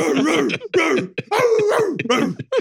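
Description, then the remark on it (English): A man's voice makes a run of loud guttural grunts, about five rough throaty bursts separated by short breaths, imitating the grunting people kept doing after seeing the film The Northman. “It reminds me of when we all went to have some food at the smokehouse after you guys saw Northman continued to grunt.”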